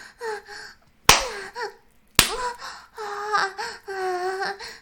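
hand slapping buttocks

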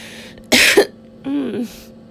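coughing

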